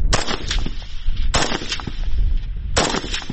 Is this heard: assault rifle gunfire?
yes